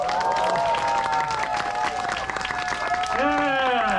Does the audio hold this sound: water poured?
no